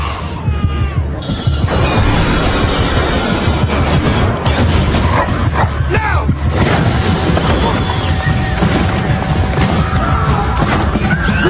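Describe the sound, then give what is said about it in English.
A subway train carrying people, in a clip from MTV, rumbles steadily along the rails, loud, with clattering and a faint metallic squeal rising over the continuous low roar. “They're on a train, subway.”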